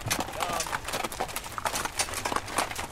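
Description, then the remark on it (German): A hay-laden horse-drawn carriage clip-clops past at a steady trot in Transylvania, the sharp hoofbeats coming quick over a busy background of outdoor noise. “Eine heubeladene Pferdekutsche zockelt vorbei.”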